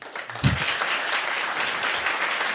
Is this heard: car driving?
no